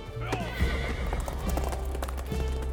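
A horse sets off with a burst of clopping hooves as a messenger at Drogheda wheels it around and digs in his spurs, the quick rhythmic hoofbeats fairly loud over a low rumble, with a brief whinny near the start.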